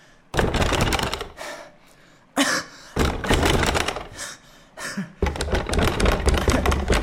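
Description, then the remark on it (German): Someone forcefully rattles and bangs on a locked door, loud bursts of clattering and thumping that come in several rough, uneven spells with brief pauses between. “Zugnagelt! So ein Blödsinn! Die Tür?”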